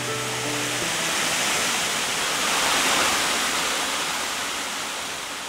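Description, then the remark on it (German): A powerful waterfall plunging from a great height onto rocks roars steadily, a dense, loud rush of falling water that swells slightly midway; a brief low tonal hum fades out in the opening second. “Ungeheuerlich ist die Kraft des Wasserfalls, wie er sich aus großer Höhe hinunterstürzt, wie er die Steine formt, sich tief in die Felsen gräbt.”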